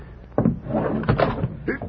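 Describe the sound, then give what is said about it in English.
A ranch house door swings open with a sudden thump, then a jumble of heavy thuds and scuffling as an injured man who was leaning on the door stumbles and falls inside. “I fell right in. Must have been leaning on the door.”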